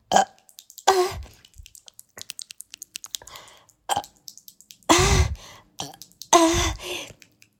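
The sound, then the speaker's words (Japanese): Several loud, throaty burps erupt at uneven intervals while drinking, three big ones and a couple of shorter ones, with faint clicking and ticking noises in the gaps. “ゲップがめっちゃ出る。”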